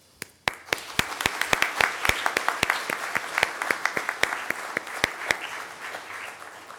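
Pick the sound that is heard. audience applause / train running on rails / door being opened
audience applause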